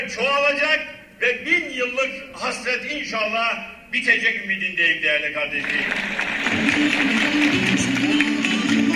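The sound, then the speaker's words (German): Music or raised voices give way halfway through to a dense, steady wash of spectators cheering and applauding at a foundation-stone ceremony on a festively decorated festival ground, carrying on loudly to the end. “Die Musik spielte, die Zuschauer jubelten und die Ehrengäste ließen weiße Tauben in den Himmel fliegen.”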